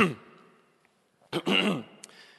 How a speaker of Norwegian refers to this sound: Vi kremter.